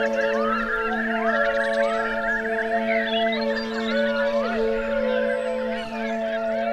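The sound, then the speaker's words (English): A large flock of thousands of birds of many kinds honks and calls all at once on a beach, a dense, continuous chorus of overlapping cries and squawks that stays loud and steady throughout, with no talking. “They're coming! There are thousands of them. Birds of every feather.”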